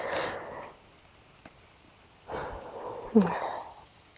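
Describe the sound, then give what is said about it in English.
Heavy breathing, three loud, airy breaths spaced a second or two apart, with a quick sharp sniff catching in the last one and no talking. “Apparently, you're breathing pretty hard yourself.”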